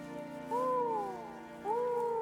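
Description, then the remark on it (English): A person imitates an owl with two drawn-out hoots, each sliding up then falling away, fairly clear against a faint steady hum. “You sound nothing like an owl”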